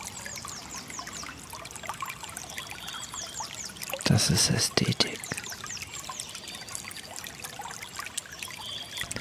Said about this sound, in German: Hör mal das Wasser, diese Natur. Atme mal dabei.